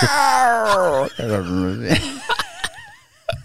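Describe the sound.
A person vocalizes a strained, wavering creature cry, a drawn-out screech then a warbling yowl, mimicking a sick bird monster like a dinosaur; it sounds loud, ending in a few short clicks.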